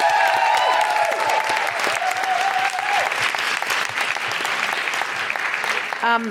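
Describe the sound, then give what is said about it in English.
A large audience applauds loudly and steadily, dense clapping filling the space, with some cheering whoops early on and a brief voice near the end. “Big round of applause for”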